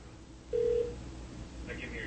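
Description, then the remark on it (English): A single ringback tone from an outgoing test call to check that the phones are working, a steady mid-pitched hum lasting under half a second, heard over a low background hiss with no talking. “There's one ringy-dingy.”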